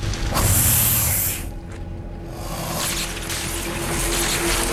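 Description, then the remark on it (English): Loud bursts of crackling, hissing electrical sparks sputter over a low steady hum as a circuit board with dozens of electrical wires on a plane sparks and short-circuits after a horn-nosed viper bites into it, easing briefly in the middle before flaring up again; no one speaks. “A horn-nosed viper beats off a challenger and bites into a circuit board with dozens of electrical wires, causing it to spark and short-circuit.”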